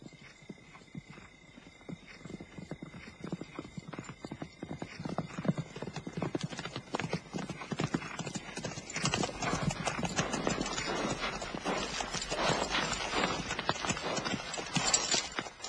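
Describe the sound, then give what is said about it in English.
Dense clattering of the hooves of hundreds of horses in an army of 3,000 men, growing louder and fuller as the herd draws closer, with a scattered whinny among the steady rumble and no one speaking. “It's a big army. 3,000 men, hundreds of horses.”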